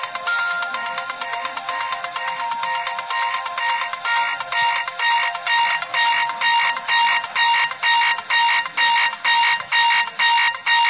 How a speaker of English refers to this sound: That is, that's an alarm.